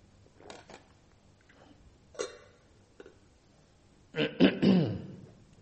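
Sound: throat clearing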